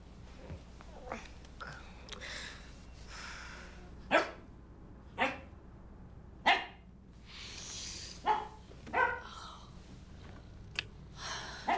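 A dog barks in sharp, scattered bursts, about six or seven short barks at irregular intervals, loud over a low background hiss.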